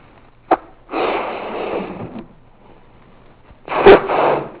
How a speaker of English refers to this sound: All right, so here we have a balloon. Let's see if I can inflate the balloon.